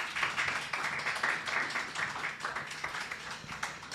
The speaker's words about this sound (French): Deux choses pour terminer. On va déjà remercier et applaudir nos invités. Un grand merci pour cet échange.